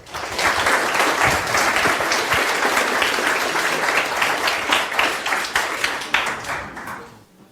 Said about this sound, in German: Kann man die nicht anders gestalten? Applaus für die Gruppe Endium.